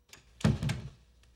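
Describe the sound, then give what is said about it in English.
A door swings shut with a soft, muffled thunk followed by a second low knock as it settles into the frame, then quiet room tone. A man closes it as he leaves through a darkened living room. “He does a little wave as he closes the door.”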